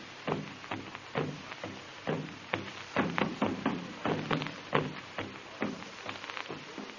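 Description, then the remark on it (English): Hollow log drums with skin stretched tightly over one end boom in a quick, uneven rhythm through a tropical night, roughly two beats a second with some double strokes, each hit a dull thud with a short decay, passing a message from village to village. No voices are heard. “Drums made of hollow logs with skin stretched tightly over one end.”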